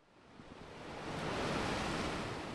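Ocean waves of the Bay of Biscay crash at the fishing village of Mutricu on Spain's north coast, a broad, hissing roar of surf that steadily swells louder, peaks, then eases slightly, with no voices present.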